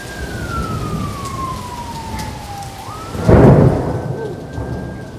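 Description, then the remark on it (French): Steady, hissing rain falls throughout while a loud, rumbling thunderclap bursts in about two-thirds through and fades. A faint wavering tone glides down and back up in the background. “Pénible soulagement. Merveilleuse tempête.”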